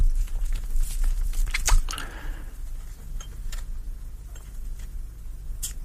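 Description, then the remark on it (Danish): A small cigar guillotine snaps shut on the tip of a large cheroot with one crisp, crunchy cut, surrounded by faint clicks and fiddling sounds against a low background hum. “Men cigar, saks. Sådan en lille guillotine.”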